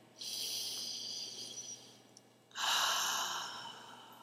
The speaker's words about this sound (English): Let's just take a moment and breathe in.